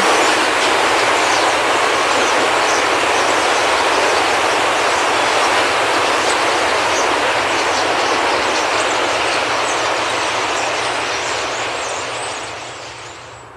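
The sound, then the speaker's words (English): A vast flock of about 300,000 birds in coordinated flight makes a dense, continuous rushing roar, steady and loud for most of its length before fading away at the end. No one speaks. “And this is about 300,000 birds all gathered together.”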